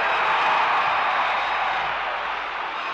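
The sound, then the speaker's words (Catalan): A large crowd roars in a sustained ovation with shouts of "Barça, Barça, Barça" as FC Barcelona president Montal pauses his speech in Barcelona celebrating the league title: a dense wash of cheering and clapping that stays loud and steady throughout. “Les ovaciones se suceden en el Parlamento del señor Montal. Gritos de Barça, Barça, Barça.”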